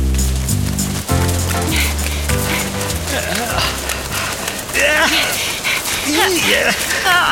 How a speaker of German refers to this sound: Dieser Schneeregen ist ja gefühlt nasser als Regen.